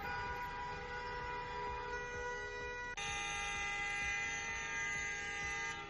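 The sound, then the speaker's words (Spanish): A loud, unbroken blare of horns from a convoy of tractors and private vehicles in a farmers' protest, blocking the access road to the Los Peñones industrial estate at 8 p.m., steady layered tones for several seconds, with engine rumble underneath and no talking. “Ese es el sonido del momento en el que bloquearon la zona por la que se entra al polígono industrial de Los Peñones, a grandes superficies de alimentación y también a cadenas de comida rápida.”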